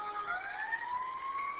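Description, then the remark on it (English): An emergency vehicle siren wails with a steadily rising pitch, holding a constant, moderately loud level throughout with no voices, continuous over the brief stretch, as the vehicle passes through traffic. “Well, I see you put them in front of me, so I got a license, siren, and escort to go down through here.”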